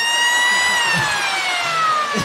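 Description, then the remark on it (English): A loud, sustained siren-like horn sound effect from a downloaded file blares with a bright, buzzy tone, its pitch sliding slowly downward for a couple of seconds without a break. “That shit sound like the horn that come when the nigga with the jacket show up.”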